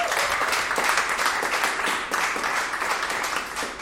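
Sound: studio audience applause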